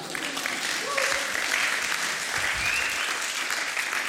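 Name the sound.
audience clapping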